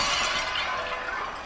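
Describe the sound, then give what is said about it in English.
A weathercock, blown from a roof by storm wind, falls into a graveyard and smashes into pieces in a loud shattering crash, with a dense spray of breaking fragments that rattles on for a second and a half before tapering slightly. No voices. “And he broke from the roof, flew in the air, then fell to the graveyard. He smashed into a million pieces.”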